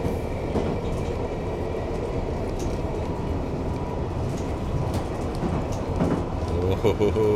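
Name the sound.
london Underground train running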